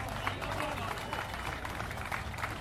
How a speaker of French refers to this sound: Allez, un tonnerre d'applaudissements.